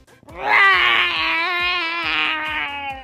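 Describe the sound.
A person voices a long, loud imitation of a dinosaur roar at a mailman outside a doctor's office: one sustained, strained cry lasting about three seconds, slowly falling in pitch, with no other talk.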